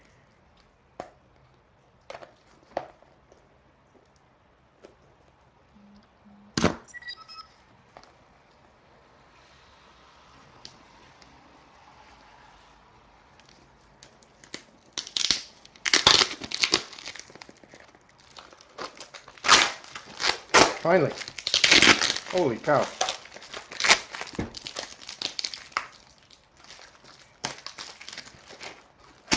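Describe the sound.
Packing tape peeled and ripped off a mailed box taped in more than one direction: scattered sharp clicks at first, then long noisy bursts of crackling tearing that grow loud and dense, with a brief exclamation from a voice.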